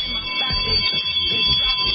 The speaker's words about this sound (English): School bells ring. Children sing.